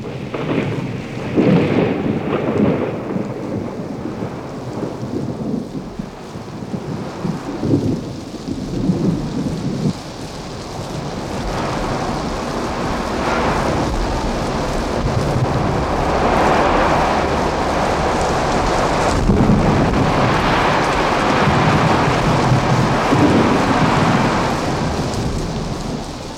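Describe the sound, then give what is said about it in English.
A thunderstorm cloudburst at night in a canyon below cliffs, with heavy, steady rain pouring down, broken by several deep rumbles and cracks of thunder, some loud and directly overhead, others rolling from behind the cliffs. No voices. “And with that came the first big, fat drops of water that always seemed to warn of the approach of a cloudburst.”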